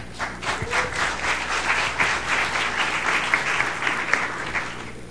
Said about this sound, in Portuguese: com as palmas da plateia.